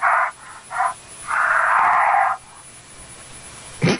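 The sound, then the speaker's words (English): A bear breathes heavily at a house's front door, picked up by a Ring doorbell camera: two short raspy huffs, then one long wheezing exhale, followed by quiet and a brief rustle at the end. No one speaks. “I like the bear breathing there, like...”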